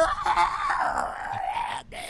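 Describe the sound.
A rough, drawn-out growl from the Muppet Sheena, voiced by a performer, rumbling steadily and fairly loud for nearly two seconds before briefly cutting off, with no speech.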